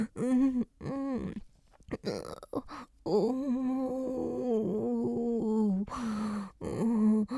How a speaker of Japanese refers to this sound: 出ちゃった。出ちゃった。ゲップ我慢できない。